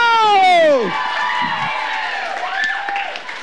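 An audience applauds and cheers in a steady, dense wash of noise, opened by a loud, high whoop that slides sharply downward before the crowd sound carries on.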